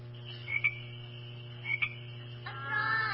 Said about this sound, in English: Yeah, it's a frog.